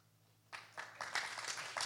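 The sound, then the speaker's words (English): An audience claps their hands: after a moment of near silence, scattered claps break out and build into a ragged, fairly soft patter of many hands, with no voices. “If there is, clap your hands.”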